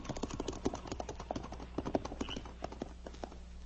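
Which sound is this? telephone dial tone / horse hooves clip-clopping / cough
horse hooves clip-clopping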